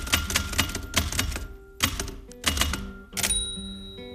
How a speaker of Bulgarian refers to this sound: Дължна съм да спомена, че това не е компютър, а пишеща машина. Тя има клавиши с букви на тях и когато ги натискаме, се отпечатва текст върху хартията. Механичната пишеща машина трака точно така.